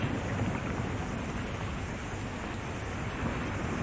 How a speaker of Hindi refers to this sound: पानी भरा जा रहा है। कितना तेज तूफान है। प्रभु हम डूब रहे हैं, क्या आपको इसकी जरा भी चिंता नहीं?